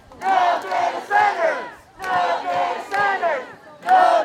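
A large crowd of protesters, hundreds holding signs, chants in unison at City Hall in Coachella against a proposal to build six data centers in the city: loud rhythmic phrases of many voices rising and falling, each burst followed by a brief pause before the next round begins.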